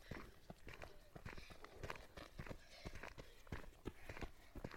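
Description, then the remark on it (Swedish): Quick, rhythmic footfalls of a jogger coming the other way and passing by, a steady run of sharp steps on a hard path, with faint outdoor ambience behind them. “Nu möter jag en som springer.”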